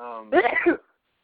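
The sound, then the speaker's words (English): A single loud sneeze: a brief voiced build-up followed by a sharp, breathy burst that cuts off abruptly, then silence. “sneezing is a good decision when you have to sneeze.”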